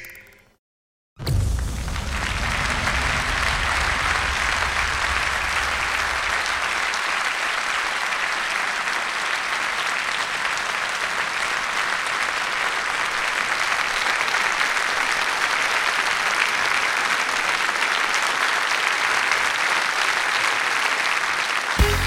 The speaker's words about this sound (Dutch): Het geluid na elke voorstelling. Het slotapplaus.